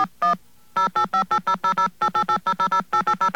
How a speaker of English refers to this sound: Let me dial into this number here. And you will see for yourself that all you have to do is push a button. Push a button. Now, the phone company is not creating these tones.